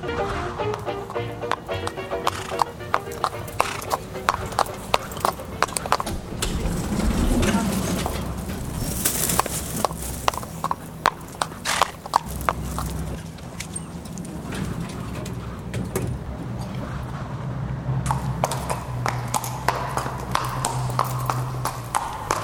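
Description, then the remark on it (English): A small Shetland pony's hooves clip-clop steadily on a hard surface, a quick, continuous patter of sharp knocks, with faint background murmur throughout. “Blimey, he must be one of the smallest horses I've ever seen. Must be a Shetland pony.”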